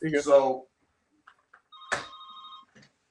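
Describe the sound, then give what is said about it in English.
A fax machine rings: a brief electronic ring with a steady two-tone pitch sounds once, sustained for about a second, just after a short burst of a man's voice and a couple of faint clicks. “It's my fax machine ringing.”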